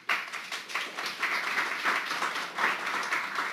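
A crowd applauds the speakers after a talk, many hands clapping in a dense, even patter that holds at a moderate level throughout, with no voices rising above it.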